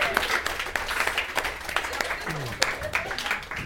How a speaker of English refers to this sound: Audience, give yourselves a round of applause.